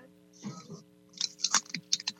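Loud, crisp crunching of chips being chewed: a cluster of sharp, irregular crackly bursts following a softer muffled start, with a faint steady hum underneath.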